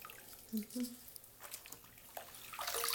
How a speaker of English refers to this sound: You don't have to say anything, okay? Just feel the warm water.